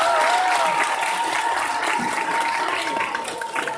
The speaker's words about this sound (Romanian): Aplaudați, că au nevoie de încurajare!